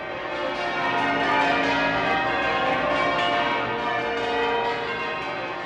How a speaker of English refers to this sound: The wonderful sound of bell ringing. Not on the Isle of Man in that case, but you do get a bonus point if you can tell me the name of the peel.